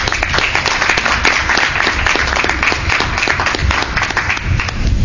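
A room full of people applauding steadily, dense overlapping claps sustained at a fairly loud level throughout, with no voices standing out.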